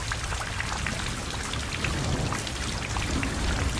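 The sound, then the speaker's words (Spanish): Steady rain falls continuously, a dense hiss of drops with a low rumbling undertone, even and unbroken throughout at moderate loudness. “Me cuesta verte a través de este vidrio esmerilado, de esta lluvia que insiste en persistir, de estos ojos que no me sirven si no te ven.”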